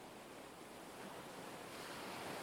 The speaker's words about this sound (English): Now listen to the waves.